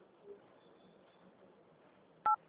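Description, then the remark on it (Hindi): A single short telephone keypad tone, a crisp dual-pitched beep, pressed in a bank's automated phone menu, sounds loudly near the end after a stretch of faint, hissy phone-line quiet. “मुख्य मेन्यू में जाने के लिए डायल करें 8।”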